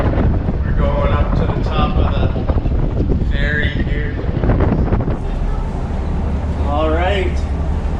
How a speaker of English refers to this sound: It's windy! Wow! All right.